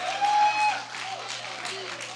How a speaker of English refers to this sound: Just your clapping your hands like that. Send chills. Hello, I said send chills into the spines of the demons.